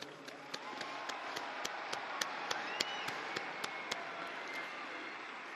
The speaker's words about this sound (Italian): Un applauso alla nuova beata.